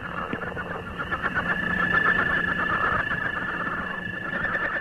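northern leopard frog call

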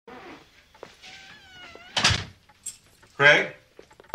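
knocking on a door

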